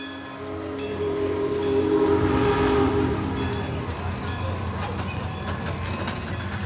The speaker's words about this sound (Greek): Η πρώτη μου ανάμνηση ήταν σε ένα τρένο. Το τρένο ταξιδεύει.